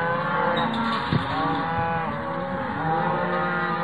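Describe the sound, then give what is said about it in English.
A muffled, low cow moo from cows near a ranch, drawn out continuously for several seconds, steady and fairly loud with a dull, rumbling tone, and no one talking. “The cow's moo is very muffled.”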